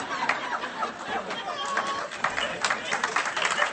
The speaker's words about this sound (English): Listen, don't clap. You're taking away my glory in heaven.